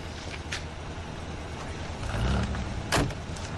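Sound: car pulling up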